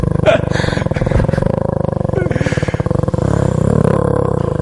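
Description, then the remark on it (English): A man growls with his voice, a loud, rough, rumbling snarl that rolls on steadily for several seconds, gritty and low like a big cat or a revving engine. “That's a pretty good growl, actually.”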